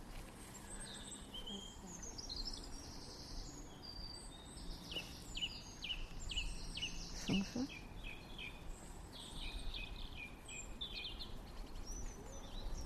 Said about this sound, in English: Song thrush going nicely.